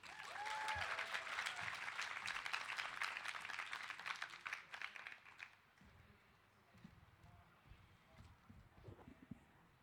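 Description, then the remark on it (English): A crowd applauds the third-round young poets at a poetry event with dense, steady clapping for about five seconds, then the clapping thins and fades into scattered claps and low murmuring. “So please give a big round of applause for round three poets.”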